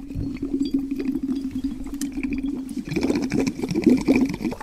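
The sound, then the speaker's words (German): Air from an inflated balloon glued to a straw bubbles steadily through the straw into a glass of water, a continuous gurgling burble with a low buzzing tone, growing louder and more splashy in the second half. No one speaks. “Und dann haben wir das Strohhalmende in ein Wasserglas gesteckt und dann hat es geblubbert.”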